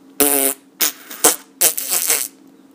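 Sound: fart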